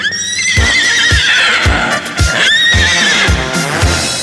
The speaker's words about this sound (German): Da steht ein Pferd auf dem Flur, ein echtes Pferd auf dem Flur.